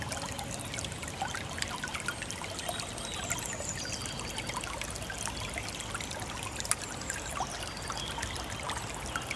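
The Heisterbach brook trickles steadily, a dense, even babble of water with many small splashes and gurgles, while a few faint, high spring bird chirps sound above it. No one speaks.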